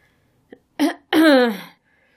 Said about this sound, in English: The drama she'd expected to create when she opened her eyes was undercut by the fact that she had to clear her throat to get everyone's attention.